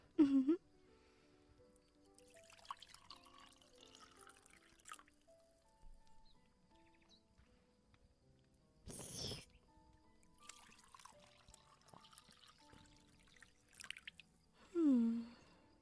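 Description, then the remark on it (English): Spring water is poured into cups in a brief splashing trickle, with quiet liquid drips and soft sipping sounds, bracketed by a person's contented sighs over a faint tonal background. “I never get tired of the wonderful taste of spring water.”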